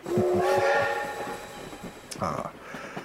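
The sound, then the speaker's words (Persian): A train rolls into Charing Cross station with a sustained, harmonic whistle or horn, rhythmic wheel clatter and low rumble, followed by a hiss of brakes or steam as it settles. “خب هاپکینز، این هم ایستگاه چرینگ کراس.”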